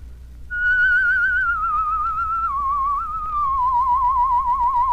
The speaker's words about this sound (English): I mentioned a while ago we were going to take an exercise that would give you a beautiful tremolo on your whistle. Instead of a plain whistle, you want a nice tone like this.